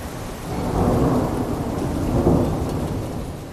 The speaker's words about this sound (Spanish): Durante toda la mañana nos acompañan tormentas y también una intensa lluvia que nos confirman hace tan solo un momento no ha dejado incidentes de importancia aquí en Sevilla.